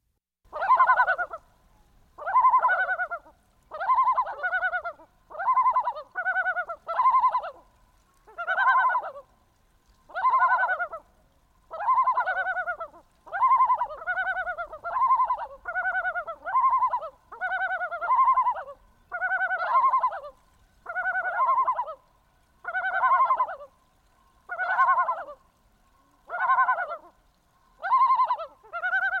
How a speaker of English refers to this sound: So I want to play another bird song that, Garrett, you recorded, and this is the yellow-billed loon.